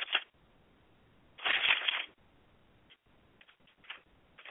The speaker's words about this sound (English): I want to read something still. And I'm turning pages to get to it. Okay, I'm still turning pages.